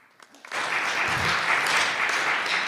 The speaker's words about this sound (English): Will Anthony Scaramucci be White House Communications Director 6 months from now? Round of applause if you think so.